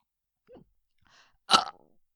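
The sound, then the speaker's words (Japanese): A short, soft gulp-like noise, then a louder abrupt burp that breaks out sharply and trails off with a brief rattling tail, with no talking. “あ、今ちょっと大きいの出た。”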